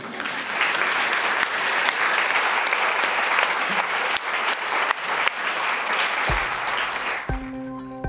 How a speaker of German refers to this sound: Und wollen wir einmal klatschen?